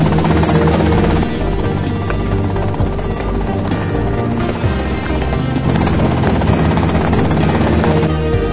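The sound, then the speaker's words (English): A helicopter roars, its rotor thudding in a dense, steady drone that stays loud for the whole stretch, with no voices over it. “Okay, that's them and the chopper.”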